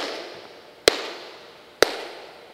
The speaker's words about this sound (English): I'm going to clap 3 times. You'll hear the echo that's been created by the sound system.